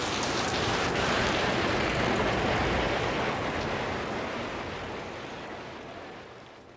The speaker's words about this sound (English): Now, do I just keep standing here and hope that the rain passes? I could be standing here for a long time.